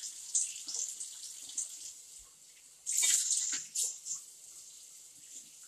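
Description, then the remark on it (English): Tap water runs steadily with a hissy rush, swelling louder for a moment near the middle as mostly plastic dishes are rinsed beneath it, with a few soft knocks and splashes. No one speaks. “I kind of like the order of, like, okay, we're going to do plates, and then we only have to do some dishes, and then, you know, you can kind of count down.”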